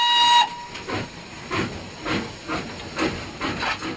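A steam train whistle shrieks briefly at the start, then gives way to rhythmic, hissing chuffs of steam repeating about twice a second, moderately loud.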